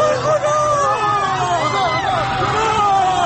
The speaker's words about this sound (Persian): صدای ناله زخمی ها و تیر خورده ها با صدای فریاد جمعیتی که به کمکشان رفته در هم می پیچند.